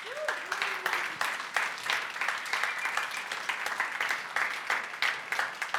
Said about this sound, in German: Herzlichen Applaus für alle, die das erste Mal hier sind.